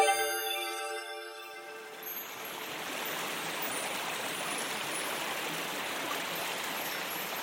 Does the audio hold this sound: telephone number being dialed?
no